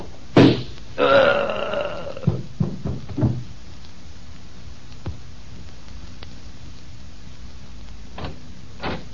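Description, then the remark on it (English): In the radio drama Boston Blackie, a single muffled, sharp pop from a gun fitted with a silencer, fired by a boss at his man Weaver near the start, followed by a short throaty groan and a few dull thuds, then near-silence with faint clicks. “I'm putting a silencer on it.”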